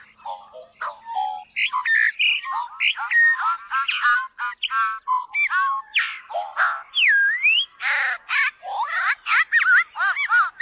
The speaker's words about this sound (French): Les messieurs sont de couleur noire, avec un dessus de tête de couleur jaune et un dos blanc. Les dames sont de couleur brun clair, avec des bandes noires. Écoutons le chant du goglu commun.